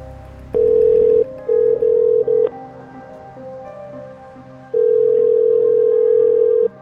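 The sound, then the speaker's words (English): A steady electronic ringback tone of an outgoing phone call to a woman sounds through the line in several bursts: one long ring, a few short broken pulses, then another long ring after a pause, with faint line hiss between. “gives me her phone number. So I call her.”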